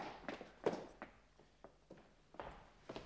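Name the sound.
stomping footsteps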